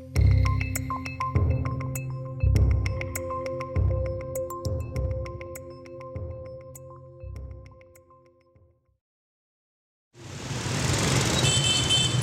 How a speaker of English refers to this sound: Hanoi is an extremely loud city. A tide of motorbikes and SUVs flood the streets every day. Their ever-blowing horns competing with pneumatic drills, babbling markets, and squawking chickens for attention.